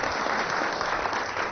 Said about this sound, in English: it's a round of applause, yeah.